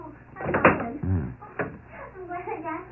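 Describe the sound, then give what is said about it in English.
A door eases open a crack with a short low creak between a few knocking, rattling handling sounds, moderately quiet, with faint murmuring voices in the background. “Open the door a crack.”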